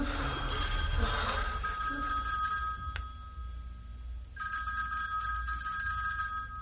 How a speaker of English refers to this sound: is that our ring? No, dear, it's the Anderson signal.